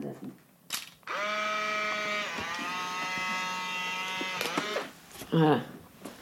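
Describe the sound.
A click is followed by the steady mechanical whir of a Polaroid instant camera's motor ejecting the print for about three seconds during a photo session, then a short stop and a brief voice afterward.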